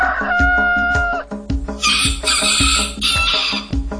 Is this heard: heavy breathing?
no